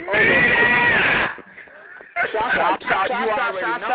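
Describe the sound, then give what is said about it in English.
A woman yells loudly and shrilly: a long, strained cry, a brief lull, then another burst of wavering, high-pitched shouting. “…, you is too loud. You is giving me a headache”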